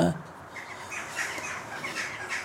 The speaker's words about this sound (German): Ja, sind die Vögel da. Das sind Elster, ne? Ja.